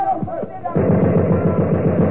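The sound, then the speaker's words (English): A brief voice gives way to a loud, sustained burst of rapid automatic gunfire fired over a truck, a steady rattle of sharp shots that continues to the end. “Fire a burst over the truck.”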